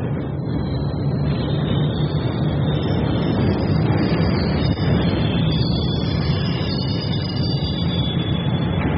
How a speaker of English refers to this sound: Our train's coming.